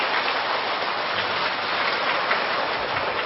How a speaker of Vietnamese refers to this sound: Vậy thì để tri ân lời dạy của Thầy cũng như thay đổi không khí, xin quý vị cho một tràng pháo tay thật lớn trước khi đi vào câu hỏi thứ ba.